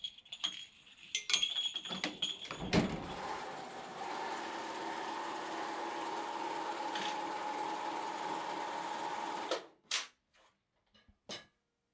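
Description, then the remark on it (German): A sewing machine in Hohenems, Vorarlberg, rattles steadily for several seconds after a few clicks and knocks, a dense mechanical whir that stops abruptly, followed by a couple of brief taps. Fairly loud, no talking. “Ja, wer sich jetzt fragt, was das gerade für ein Geräusch war, das war das Rattern von einer Nähmaschine.”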